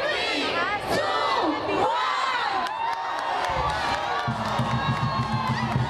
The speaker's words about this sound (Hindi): ये fireworks China में हो रहे हैं, जहां दारुल हुकूमत बीजिंग में कमरी साल के पहले दिन को बंदर के नाम से मंसूख किया गया है